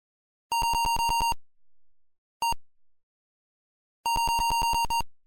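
Rapid bursts of harsh, buzzy electronic beeps, a retro video game sound effect from a Sierra Online high-res adventure game, play in three groups: a long stuttering run, a brief blip, then another long run. No voices.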